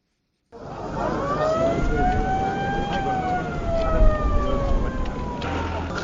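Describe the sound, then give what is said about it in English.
An ambulance siren wails in a slow rising and falling tone, fairly loud, as two ambulances carrying 13 former hostages arrive in Ngawi, a Cameroonian town on the border with the Central African Republic, over a steady bed of murmur from watching family, friends and onlookers and street noise. “Family members, friends and curious onlookers watch as two ambulances with 13 former hostages arrive at Ngawi, a town on Cameroon's border with the Central African Republic.”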